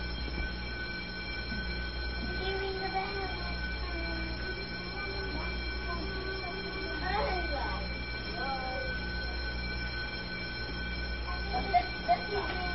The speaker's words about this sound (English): Boy, is that a long bell.